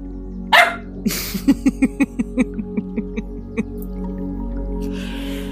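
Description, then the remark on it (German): A dog lets out a quick run of about a dozen short, sharp barks in a steady rhythm after a brief louder bark, barking and growling, with a low background hum. “Der Hund hat gebellt und geknurrt, die Katze hat geknurrt.”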